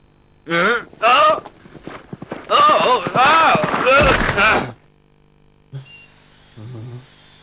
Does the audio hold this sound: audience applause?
no